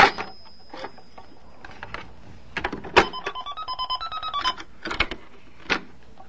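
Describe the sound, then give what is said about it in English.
A stuck cash register drawer being jiggled and forced while money is put in, with sharp plastic clacks and rattles scattered throughout and a rapid run of ratcheting clicks alongside high electronic tones midway, fairly loud. “I gotta put the money in the cash register. Oops, it's stuck.”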